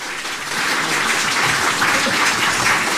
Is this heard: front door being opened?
no